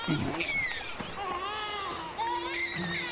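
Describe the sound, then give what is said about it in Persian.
A small baby cries steadily with high, wavering wails that rise and fall, fairly loud, with no pause for the whole stretch. “یه بچه؟”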